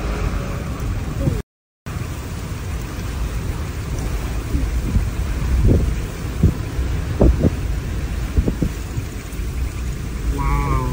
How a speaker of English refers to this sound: This giant rain bomb dropped millions of liters of water over Nevada within just a few seconds.